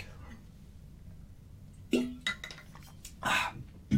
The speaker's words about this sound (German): Ich trinke mal kurz einen Schluck Wasser.